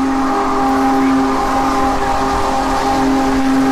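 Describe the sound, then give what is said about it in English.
The Union Pacific Big Boy 4014 steam locomotive sounds its whistle in a long, steady, harmonic blast while rolling along the track into Nowata, Oklahoma, with a broad rumbling wash of train noise and noise from thousands of people gathered along the track underneath, loud. “The Union Pacific's Big Boy 4014 steam engine locomotive rolled into town.”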